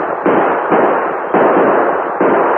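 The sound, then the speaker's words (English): Gunshots fired from horseback at riders in a Lone Ranger western: four loud cracks about half a second or more apart, each swelling into a dense, roaring wash of noise that never fully dies away between shots. No one speaks. “Can't shoot good from a horse against men riding like that.”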